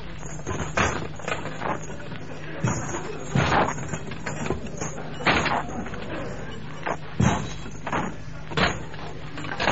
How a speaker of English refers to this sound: Then, great door chains being pulled through.